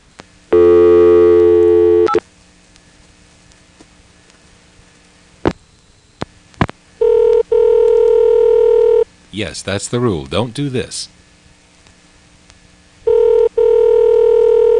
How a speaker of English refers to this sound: A corollary to the aforementioned rule is, do not give the customer a ringtone when all you're doing is giving him a recording to tell him that he did not dial a complete phone number.